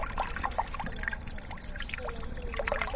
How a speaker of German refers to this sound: Vor dem Hauptgebäude der Stadt Zürcher Wasserversorgung plätschert ein Brunnen.